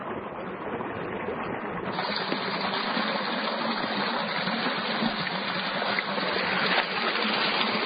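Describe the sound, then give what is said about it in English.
Water being let out of a hillside paddy field where golden carp are raised, in Long Shen village, a steady, continuous rushing and gurgling flow that stays fairly loud throughout, with no voices. “But before he starts work, he needs to let some water out of the system. As the water level drops, the mystery is revealed.”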